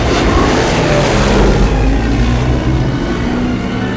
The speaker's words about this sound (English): The Avenger jumps into hyperspace as the Falcon ignites its engines and hurtles away.